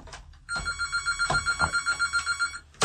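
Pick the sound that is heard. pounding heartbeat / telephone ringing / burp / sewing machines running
telephone ringing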